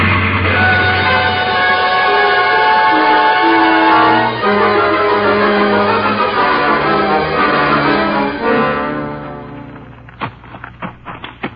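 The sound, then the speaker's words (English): A loud, laboring train engine straining up a hill drones with shifting, strained harmonic tones for about nine seconds, then fades as a quick run of sharp typewriter taps from the station master typing takes over. “Now there's the engine, Jace.”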